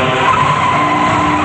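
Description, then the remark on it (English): A car's tires skid loudly and continuously with a harsh, steady screech as the car skids toward a water trough, alone, with no voices and no distinct impact or splash. “The car smashes into a water trough and they all bail out.”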